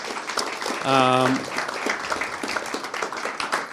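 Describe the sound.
An audience applauds with a dense, steady patter of many clapping hands lasting the whole time, while a brief sustained voiced note rises above it near the start.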